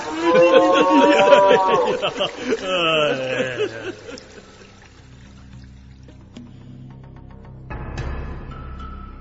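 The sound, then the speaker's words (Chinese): A loud, drawn-out moo from a calf being led to drink at a river sounds for about four seconds, its pitch sliding downward at the end, followed by quiet trickling and splashing water. “朝父说完，就牵着自己的牛犊到河的上游饮水去了”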